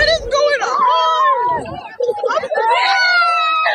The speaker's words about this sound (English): After driving erratically, not letting kids off the bus, here's audio of the kids freaking out on the bus and some of the 911 radio call and two students talking about the experience.